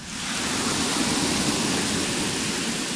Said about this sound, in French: Je vous faire écouter la pluie.